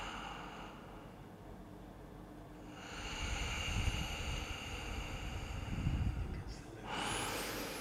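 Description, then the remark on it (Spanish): Three long, slow, deep breaths, airy swells rising and falling at an unhurried pace, with no talking. “Tres respiraciones largas.”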